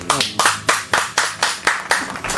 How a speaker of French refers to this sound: Bravo, bravo. Est-ce qu'on peut applaudir les gens?